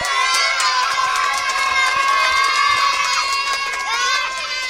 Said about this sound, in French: Tous les animaux, heureux, applaudirent le nouveau roi.